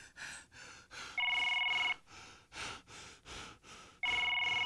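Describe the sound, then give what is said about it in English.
A phone's ringback tone sounds twice during an outgoing call, steady electronic rings separated by a pause, with heavy rhythmic breathing or gasping filling the gaps around them. “Hope this nigga pick up the phone.”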